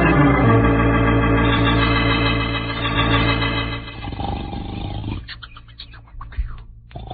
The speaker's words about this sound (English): The snores of yours are shaking the whole earth. Go, come on, wake up.